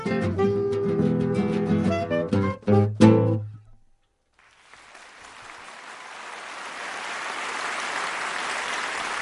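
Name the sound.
audience applause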